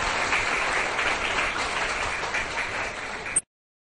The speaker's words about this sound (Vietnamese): Các cháu hãy dành tràng pháo tay để khen chính mình.